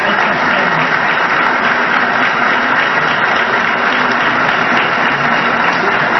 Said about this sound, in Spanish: Asimismo, también un aplauso para el IMSS, para el ISSSTE y PEMEX en el marco de estos programas institucionales que han recibido.